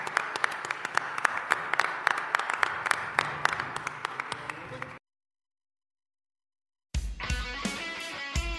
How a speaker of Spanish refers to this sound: Fuerte aplauso.